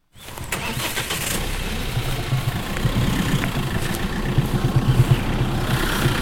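A truck's diesel engine idles in the courtyard of the Zolli zoo's operations building as the driver readies the truck, a steady low rumble that starts abruptly and holds at a constant level with slight pulsing throughout, no voices present.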